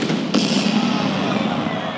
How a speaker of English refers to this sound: And then the cannon goes off.